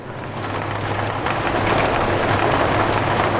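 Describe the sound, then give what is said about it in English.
Dense, steady hiss of heavy rain pouring down around 8:45 on a boat at anchor during a severe thunderstorm, loud, with 30-knot winds after a sudden temperature drop; a low constant hum underneath and gusty wind blending into the wash of sound. “Around 8:45, we get a sudden temperature drop, along with 30-knot winds, and then heavy rain.”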